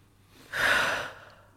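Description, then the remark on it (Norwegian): A single long, deep breath drawn in through the nose, a soft airy rush that swells quickly and fades over about a second, fairly quiet, with no talking, taken with hands on the ribs and shoulders relaxed during a singing breath-support exercise. “Først kan du ta hendene dine og sette på ribbeina på sidene, og slappe av i skuldrene. Mm. Og så bare puste inn.”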